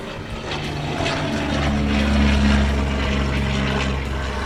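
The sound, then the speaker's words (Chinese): The propeller engine of a small homemade ultralight aircraft with wings shaped like goose wings, built by Amy's father, an artist and inventor, so Amy can fly, drones steadily and loudly, its low buzzing hum swelling slightly midway through and continuing without pause; no one speaks. “他爸爸是一个艺术家和发明家，他做了一个很特别的轻航机，机翼是雁鸭翅膀的造型哦，这样子 Amy 就可以飞起来咯。”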